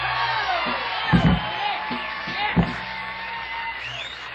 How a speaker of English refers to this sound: Ladies and gentlemen, from the Grand Ole Opry in Nashville, Tennessee, a big round of applause for ….